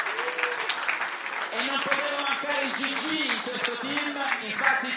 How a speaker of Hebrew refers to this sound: קראו לנו חברים מספרד, מגרמניה, מצ'כיה, מאמריקה. תנו להם מחיאות כפיים הרבה יותר חזקות.